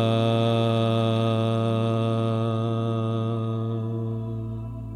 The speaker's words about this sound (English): Om. Ah. Hum. Chant it with me now. Om.